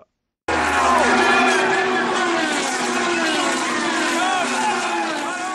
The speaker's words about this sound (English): The Daytona 500 is a legendary display of roaring engines, soaring spirits, and the American skill, speed, and power that we've been hearing about for so many years.